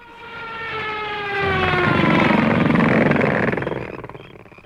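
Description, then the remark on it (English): Mosquitoes buzzing on a humid night on the outskirts of gorilla forests in Africa: a thin, high whine that glides slowly downward in pitch, then swells into a louder, rougher drone before tapering off. No one speaks. “Blast those mosquitoes!”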